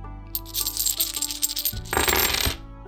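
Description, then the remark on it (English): Real metal D20 crit or fail coins clatter and jingle onto a table, a run of bright chiming clinks followed by a denser burst of rattling as more coins spill and settle, clear with no talking. “They sound amazing because they are real metal coins.”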